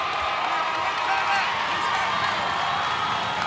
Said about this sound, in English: A minute 40 to go here in the contest. This crowd is raucous.